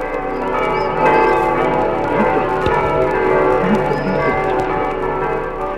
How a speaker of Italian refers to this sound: Vivos voco, mortuos plango, fulgora frango. Ripete un'iscrizione frequente sulle campane. Chiamo i vivi, piango i morti, spezzo le folgori.